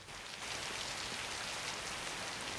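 torrential downpour of rain

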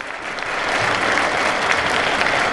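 orchestra applauding

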